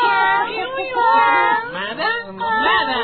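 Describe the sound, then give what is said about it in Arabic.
A person mimics a cat with a few drawn-out, sliding meows, close and fairly loud, running straight into expressive speech-like vocalizing for about three seconds. “مياو مياو، ومن قال لك تعال والعب معنا؟ أجيك يا قطة”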